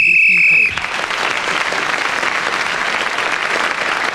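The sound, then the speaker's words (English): A single loud, shrill whistle blast lasting under a second, signalling that 60 seconds are up, cut off abruptly and followed by a steady, dense wash of applause that continues to the end. “That loud whistle, which came right in my ear and made me almost jump out of my seat, told me that 60 seconds was up.”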